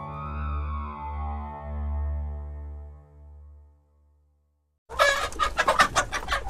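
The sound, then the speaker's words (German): A sustained electronic tone swells and fades into silence, then about 1,200 brown-feathered laying hens in a mobile henhouse on a farm near Überlingen burst into busy, overlapping clucking, rapid and chattering for the last couple of seconds, as they settle down to sleep at dusk in the late afternoon. “Im Hühnermobil von Landwirt Thomas Müller legen sich 1200 braun befiederte Legehennen langsam schlafen.”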